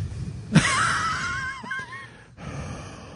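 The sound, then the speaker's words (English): A voice imitates heavy, raspy breathing into a phone on a three-way call: one long, loud, wheezy inhale with a whistling rasp, then a brief pause and another rough breath starting. “stop the breathing. Stop breathing. It's freaking Darth Vader.”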